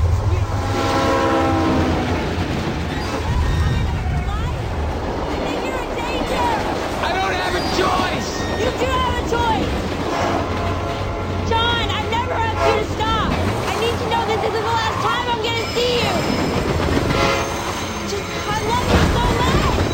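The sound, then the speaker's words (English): A train rumbles past loudly during a film shoot, its horn blaring in steady tones at the start, with clattering and mechanical roar continuing throughout and indistinct voices mixed in beneath the noise. “Be extra loud when the train passes by.”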